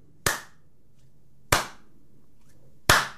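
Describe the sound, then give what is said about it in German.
Three slow, sharp hand claps, spaced evenly about a second and a quarter apart, each a loud crisp smack that dies away quickly, with no voices. “Und jetzt alle mal Applaus. Warte mal, ich applaudiere wie Schalowski.”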